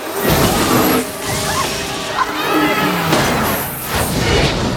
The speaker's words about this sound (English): Sue's section of the car crashes into buildings and ricochets off them on its way to the ground.